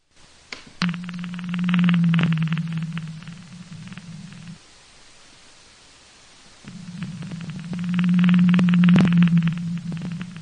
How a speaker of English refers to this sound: here's an example of what a blue whale sounds like.